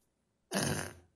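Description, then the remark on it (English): A single short, gassy fart sound effect bursts in abruptly, loud, with a brief sputtering rasp lasting about half a second before trailing off. “That was a short and gassy one.”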